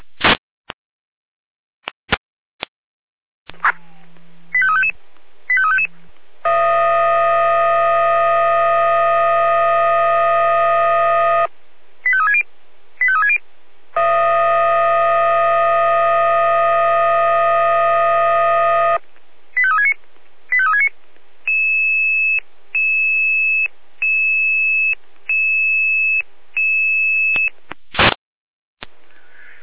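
Fire brigade dispatch alerting tones: brief warbling chirps, two long steady buzzing tones several seconds each, then a run of evenly spaced electronic beeps, loud and clear with no talking.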